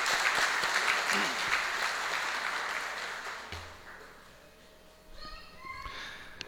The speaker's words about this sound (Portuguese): Minhas desculpas, muito obrigado pela presença e uma salva de palmas ao senhor que também está conosco.